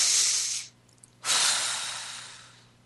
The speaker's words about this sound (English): I'm going to take a deep breath.